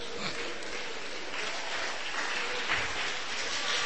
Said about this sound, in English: Great. Clap for them.